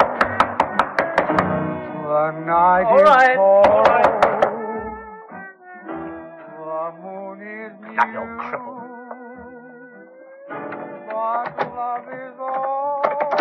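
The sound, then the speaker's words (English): Several sharp knocks on a door land in quick clusters over a record playing loudly, a wavering, moaning voice that sings and sustains long notes, the knocking fading out while the voice carries on. “How long have I got to keep on knocking?”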